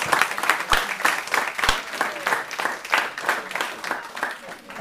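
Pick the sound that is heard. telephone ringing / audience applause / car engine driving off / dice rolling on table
audience applause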